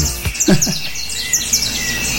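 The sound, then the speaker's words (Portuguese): Birds chirp in quick, bright bursts, several short tweets repeating across a couple of seconds, with a soft background hiss and faint low murmurs underneath. “Passarinho.”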